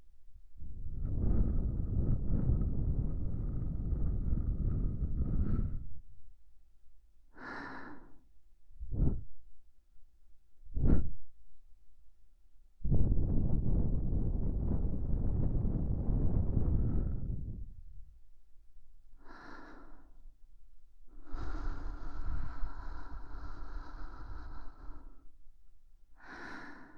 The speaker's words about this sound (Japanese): うちのお耳さんでも先生の吐息は気持ちいいのね。